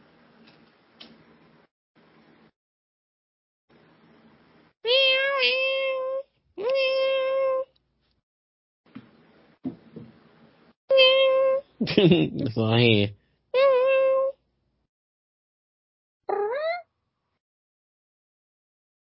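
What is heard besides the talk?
kittens meowing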